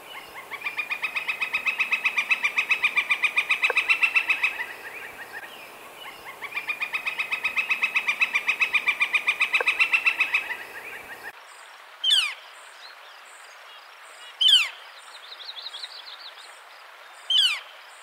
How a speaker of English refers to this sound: In the spring, when northern flickers are establishing territory, they have a loud rolling rattle call that varies in volume.